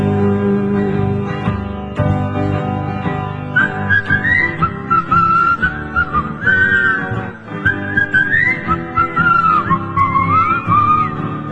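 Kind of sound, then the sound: human body sound, whistling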